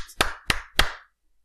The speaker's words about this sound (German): Gut, dann klatschen wir mal.